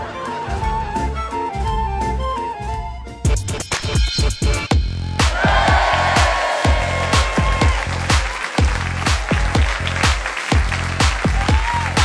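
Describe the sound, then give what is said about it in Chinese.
After a brief musical opening, loud applause from colleagues breaks out and keeps going, a dense run of sharp claps with some tonal sounds still underneath. Nobody speaks. “此时同事们的掌声经久不息，巴掌声也经久不息。”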